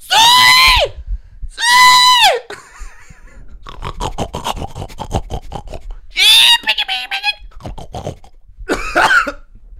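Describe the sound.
A woman imitates a pig in a hog-calling competition, letting out several loud, high, wavering squeals separated by rapid grunting and snorting, with no one speaking.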